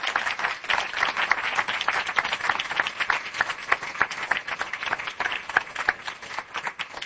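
Sustained audience applause, a dense wash of many hands clapping at steady loudness throughout, with individual sharp claps standing out and no voices above it.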